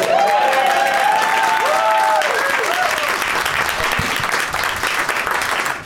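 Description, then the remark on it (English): An audience at a show taping in a comics-store showroom in Los Angeles on May 15, 2017 bursts into sustained, loud applause, dense clapping filling the whole stretch with a few whoops and cheers riding on top before it slowly thins near the end. “It's Monday, May 15th, 2017, 174 days till Ragnarok, and this is the 31st show we've taped this year. Applaud.”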